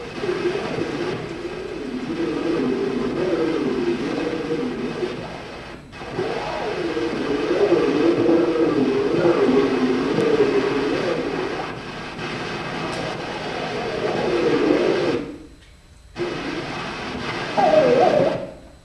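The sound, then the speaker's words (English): A railway trestle resonates as a train passes, a loud, sustained metallic drone with shifting low tones and harmonics, briefly dipping twice before swelling again; no voices. “This isn't the sound of the train going by. This is the sound the trestle made as the train went by.”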